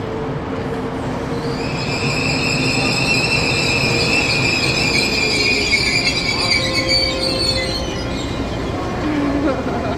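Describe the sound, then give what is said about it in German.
A departing train rolls along the rails, recorded with a microphone held close to the rails; its wheels let out long, high metallic squeals over a steady low rumble that holds loud throughout. “und wie hört es sich eigentlich an, wenn ich ganz dicht an die Schienen, man muss immer ein bisschen aufpassen, dass sie dann nicht da reinfallen, aber sie wollten eben genau dann wie Klang vor gucken, wie ist es, wenn jetzt der Zug abfährt oder so.”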